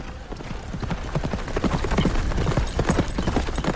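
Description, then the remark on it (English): A horse ridden by a man gallops at a fast, steady pace through tall prairie grass in Texas, heading west, its hoofbeats pounding in quick rhythmic clusters over a soft rustling background, fairly loud throughout. “A horse speeds through the tall prairie grass, heading west.”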